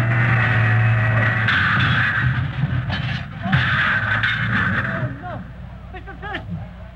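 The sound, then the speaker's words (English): A heavy driverless truck engine rumbles and hums steadily as it backs up, then a few loud crashing thuds land midway as it hits a building, followed by scattered clattering debris as the engine noise continues. “Hey, look out where you're backing that truck!”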